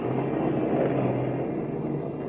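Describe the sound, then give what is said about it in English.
A car engine drones steadily beneath a dense wash of hissing rain as the car climbs a winding mountain road in the Blue Mountains through a heavy rainstorm, the loud, continuous roar holding level throughout with no voices. “And as we join them now, Lois and Horn in Kent's car are laboriously climbing up and down the winding mountain road, fighting their way through a heavy rainstorm.”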